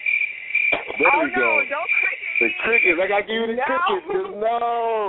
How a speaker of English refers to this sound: Don't click it. The crickets.